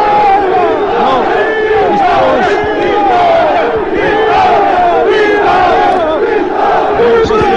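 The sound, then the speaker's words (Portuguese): A dense crowd cheers and shouts continuously around an approaching car carrying a general, heading to the door of the Quartel do Carmo, many voices overlapping in loud, excited calls with rising and falling pitch and no pause throughout. “As pessoas tentam, cumprimentar, o general, nós ainda não o conseguimos ver.”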